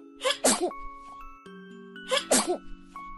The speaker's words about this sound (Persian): وقتی عطسه می کرد آب دماغش از در و پنجره بیرون می زد. همه فرار می کردند.